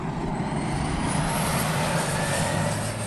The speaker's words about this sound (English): Outside, a single-engine plane that carries about 750 gallons of red fire retardant is getting ready to leave.